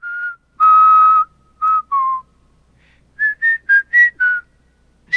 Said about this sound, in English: Bender, with his scarf wrapped around his head, is whistling.